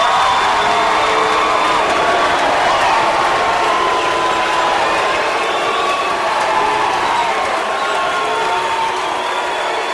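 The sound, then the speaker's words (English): A large crowd cheers loudly and continuously as the mayor of Salt Lake City, Utah, Rocky Anderson, is introduced, a dense, steady roar of many voices with scattered shouts and whistles that holds its level for the whole ten seconds. “There was a half minute of cheering, followed by a half minute of booing.”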